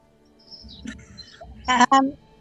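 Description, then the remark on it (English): Birdsong outdoors from blackbirds, sparrows and tuis: thin high whistles drifting, then two loud, rich warbling bursts near the end, over a low murmur of background noise. “Well, they're blackbirds, sparrows, and tuis.”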